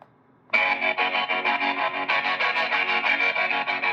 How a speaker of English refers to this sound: That screamed at me. That guitar screamed at me.